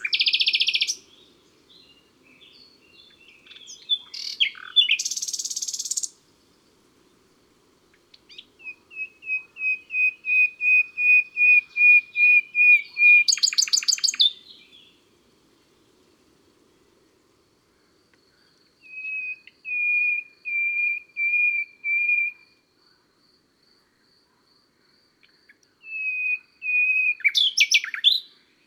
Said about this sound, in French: Voilà, c'était pour le plaisir d'écouter le chant formidable du rossignol, qui en plus d'être un improvisateur hors pair, est aussi un champion d'endurance. Il peut chanter jusqu'à 6 ou 7 heures sans s'arrêter.